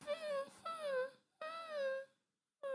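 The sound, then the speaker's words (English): A person imitates a mastiff whining, making drawn-out, wavering high-pitched whimpers in three closely spaced, fairly loud bursts separated by short pauses. “How do you make a dog whine noise?”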